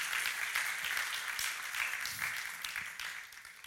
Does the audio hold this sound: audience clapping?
yes